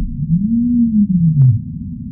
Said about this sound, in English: I think it's the first time I've used DAS to listen to blue whales.